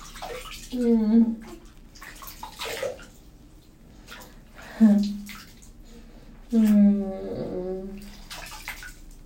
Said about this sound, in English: It's so weird, my face is getting all sweaty. I'm gonna just run water over it real quick.